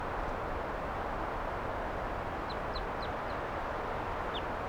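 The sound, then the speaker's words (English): Wild birds, some wanting to perch on the microphone, give a handful of short, high chirps, several in quick succession and one more shortly after, over a steady wash of outdoor noise with no talking. “And the birds, some of the wild ones came right here and wanted to perch on the microphone.”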